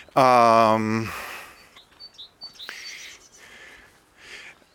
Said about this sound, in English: At least the birds are tweeting, singing, whatever they're doing.